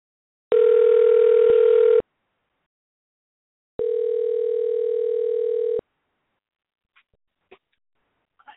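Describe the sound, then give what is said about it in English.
A telephone dial tone, heard after the wrong button was pushed on the phone, sounds twice: a steady, unbroken buzzy tone for about a second and a half, a pause, then a second longer stretch, followed by a few faint clicks. “There was an issue outside that distracted me, and I pushed the wrong button.”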